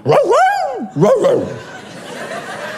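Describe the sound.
A dog gives two drawn-out, yowling barks in quick succession, loud, followed by a stretch of faint background noise.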